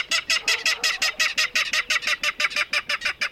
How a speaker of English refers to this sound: In a salt marsh near San Francisco, a loud clatter erupts from the dense vegetation. These jolting notes, like a small engine cranking up, are the voice of a Ridgway's rail.